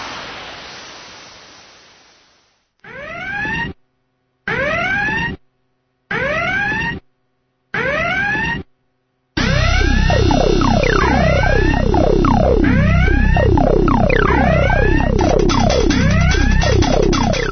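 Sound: siren sound effect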